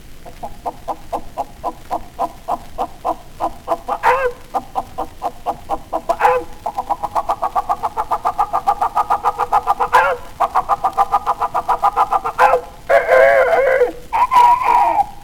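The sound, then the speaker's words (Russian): A voice imitates a rooster and a hen, with rapid, repetitive clucking pulses that build into longer, strained crowing-like calls near the end. Fairly loud, no speech. “По-господски значит шантиклер, а по-нашему значит просто петух.”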